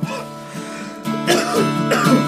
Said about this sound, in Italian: Pardon la tosse.